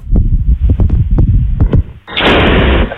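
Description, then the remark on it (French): A rapid series of low, heavy booms and thuds, followed by a loud, sustained roaring burst of noise lasting under a second before it cuts off, like an explosion, heard during an evening garden barbecue in Brest, with a gigantic ball of light in the sky. “Qu'est-ce que c'est que c'est chelou, une explosion?”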